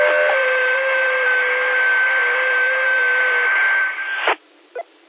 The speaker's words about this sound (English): Those tones, Alexander? They did, very, slow, like a screech